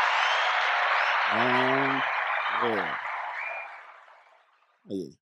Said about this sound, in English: Yes, round of applause.